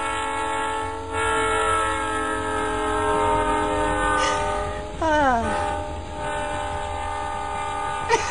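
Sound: train passing with horn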